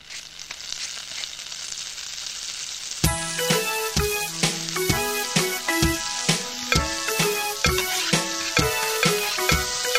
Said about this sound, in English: Five fat sausages sitting in a pan. Sizzle, sizzle, sizzle.